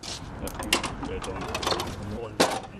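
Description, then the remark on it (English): Portable dynamometer rollers, about 5 feet long and looking like a mini treadmill, used by Gardaí in Limerick City to measure the speed of electric scooters, run with a steady mechanical whir and rattle, broken by sharp clicks and clunks, with one louder knock near the end. “It's a portable dynamometer and measures the speed of electric scooters.”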